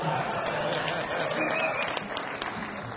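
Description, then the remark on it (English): Audience applause, a dense, steady patter of many hands clapping at once, filling the full three seconds at an even, moderate loudness. “No applause is necessary.”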